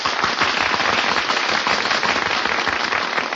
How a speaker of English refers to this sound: Hey, they're applauding us.